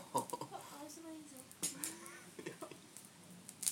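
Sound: bird clucking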